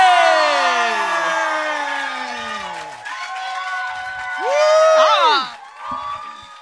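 An audience cheers and whoops loudly over a wash of clapping, with sliding high-pitched shouts rising and falling and a final burst of excited yells before it fades.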